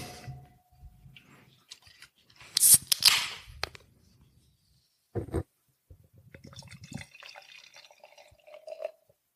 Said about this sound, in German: Ja, dann würde ich sagen, mache ich die Dose doch mal auf.